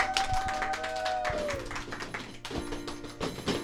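A crowd applauds with dense, steady clapping that lasts a few seconds, a brief high whistle-like tone gliding downward early on, with no talking over it.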